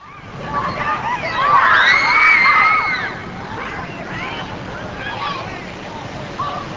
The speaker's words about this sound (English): On a chilly day last week, swimmers at Mount Olympus Water Park ignored the weather so they could experience the outdoor tidal wave.